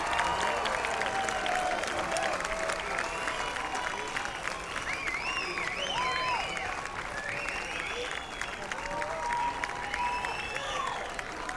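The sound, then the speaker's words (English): An audience applauds after a live song: dense, steady clapping that holds for the whole stretch, with shrill whistles and cheers rising and falling over it. “All right, give it up for”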